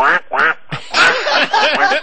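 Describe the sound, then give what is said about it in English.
A loud run of about six nasal quacks in quick, slightly uneven succession, a person's voice imitating a duck call with no other sounds around it. “You know, a lot of people come up to me and they want to hear the duck call.”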